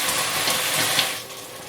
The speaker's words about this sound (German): Ich mache das schön langsam, das zischelt immer schön. Und bei dem Zischen löst sich das Angebrannte.